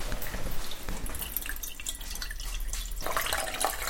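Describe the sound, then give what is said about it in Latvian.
Liquid paraffin pours in a steady trickle with dripping splashes in a candle production room, poured for making candles, swelling slightly brighter near the end. No one speaks. “Bet tas ir šķidrs parafīns.”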